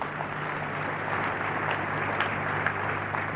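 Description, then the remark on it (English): An audience claps for Jesus steadily together, a dense, continuous wash of many hands at a fairly loud, even level for the whole stretch, with no voices standing out. “Let's clap for Jesus.”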